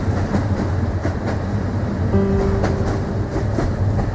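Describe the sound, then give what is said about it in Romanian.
A train rolls steadily along the rails with a loud, continuous rumble and repeated clickety-clack beats over the joints. A faint humming whine rises briefly partway through. “Dar eu trebuie să cobor la următoarea stație.”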